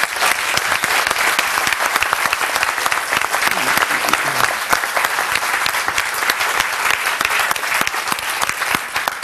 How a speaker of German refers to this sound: Vielen, vielen Dank. Einen Applaus bitte.